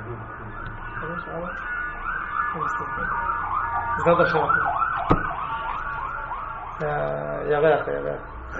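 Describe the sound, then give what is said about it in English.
An ambulance siren wails loudly in rising and falling sweeps, shifting into a rapid yelp pattern as it passes, while people keep talking underneath. “Ambulance.”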